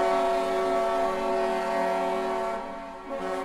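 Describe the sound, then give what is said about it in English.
A steamship's steam whistle blows one long, steady, rich-toned blast as the ship arrives at a port in the 1800s, loud, holding for several seconds and dipping slightly near the end, with no voices. “In the 1800s, a steamship rolls up to, say, Buenos Aires, which is a big port at the mouth of these two rivers.”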